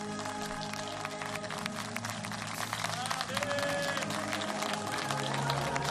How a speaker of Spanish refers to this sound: Hay aplausos para San Marino.